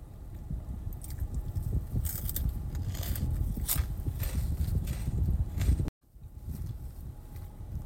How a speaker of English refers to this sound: Then I'm gonna take a bite. Another bite. Cheeto.